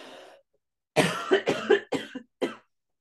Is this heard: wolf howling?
no